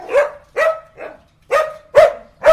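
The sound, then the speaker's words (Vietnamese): A dog barks six times in quick succession, loud, each bark short and sharp with brief pauses between them and no one speaking. “Chó đâu?”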